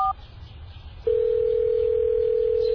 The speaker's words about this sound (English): Nadim whips out his cell phone and dials Junaid's number.